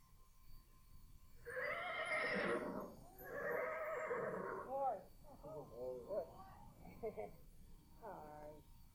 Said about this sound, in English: Here comes the winged horse, Pegasus.